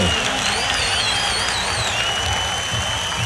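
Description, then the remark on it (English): Loud, dense applause from a crowd, with cheering and whooping voices rising over the steady clapping for the whole stretch. “The crowd goes wild.”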